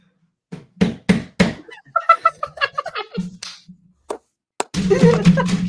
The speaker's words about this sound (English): And this is me grabbing all the rocks.